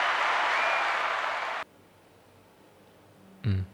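applause

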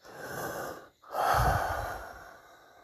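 heavy panting breaths

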